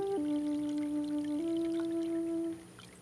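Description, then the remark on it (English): A small amount of water is poured in for a pet fish for about two and a half seconds, a steady trickle with a hollow ringing tone that shifts slightly in pitch before stopping. “Now, if I had to put a lot of water in, I'd have to leave that water set out in this room for quite a while.”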